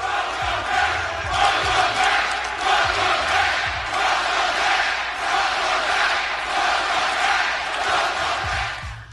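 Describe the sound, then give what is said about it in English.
A packed arena crowd cheers and roars loudly and without pause after a performer announces he is in remission, the dense wall of noise swelling and easing in waves, with scattered shouts and a few low thumps underneath. “pretty impressive for him to, A, not only be in remission and be so healthy, but to have the crowd not do a heel turn after he said he was fine and everyone was cheering.”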